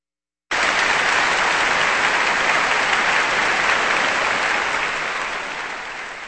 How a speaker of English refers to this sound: That applause is for the BBC Symphony Orchestra with the orchestral suite Frescoes of Piero della Francesca written in the 1950s by Boleslav Martinu here on KPR, Kansas Public Radio.